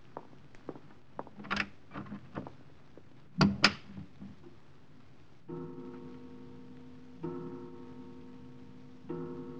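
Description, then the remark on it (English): An unlatched door opens as someone walks in, with a series of clicks, rattles and knocks from the latch and handle, then a sharp thud, followed by a steady, humming tone that swells in waves. “Forgive me for just walking in, Herr Leutnant. Good evening, Herr Commandant. The door was unlatched.”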